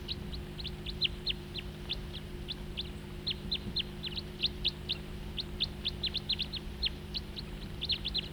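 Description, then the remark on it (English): Calls of a crossbill flying nearby: a steady stream of sharp, high-pitched chips, some rapid in pairs or clusters, continuing throughout over a constant low hum. No one speaks. “And another crossbill flying nearby.”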